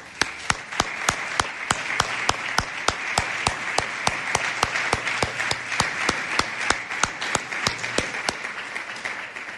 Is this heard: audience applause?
yes